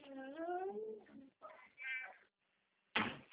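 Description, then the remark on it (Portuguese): A cat meows twice, the first a long, drawn-out cry and the second shorter, followed after a brief pause by a sharp, noisy thump. “Come, gatinho.”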